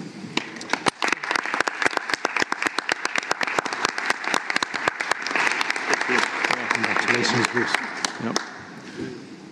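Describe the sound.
A room of people at a board's annual meeting applauds steadily for several seconds, approving by acclamation the selection of a vice chair, dense overlapping claps forming a loud, sustained wash, while murmured voices run underneath before the clapping fades out.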